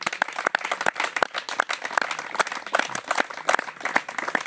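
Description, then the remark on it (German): A crowd applauds steadily, many hands clapping in a dense, continuous patter at a moderate level with no voices rising above it, applauding the team of the café Villa Remais. “Also herzlichen Dank und großen Applaus erstmal ans Team von Villa Remais”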